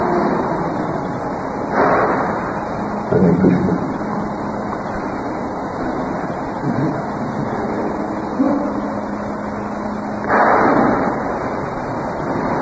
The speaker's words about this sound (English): Is there some construction going on, or is that the garbage truck? Trash.